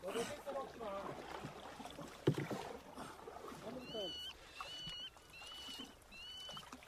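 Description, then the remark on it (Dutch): A canoe being paddled on water as people get back into the canoe: soft splashing and dripping strokes, with one sharper knock partway through. Faint voices murmur early on, and high, sharp bird calls, alarm calls of godwits, cut in near the end. “U gaat weer verder over de weg, wij stappen weer de kano in.”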